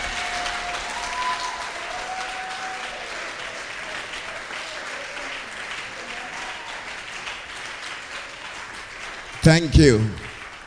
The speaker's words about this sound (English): Oh, shout amen, somebody. Shout another amen to God's glory. If you believe any yoke in your family, any yoke in your life has been destroyed, then do a better clap, do a better shout.